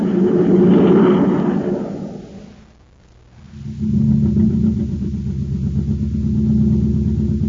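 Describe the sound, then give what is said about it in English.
In the Space Patrol adventure, a surface car (jet jalopy) running on ordinary fuel: its engine rumbles steadily and loudly, drops away almost to silence for a moment, then picks back up into a low, continuous drone with no voices. “This surface car has just got ordinary fuel in it.”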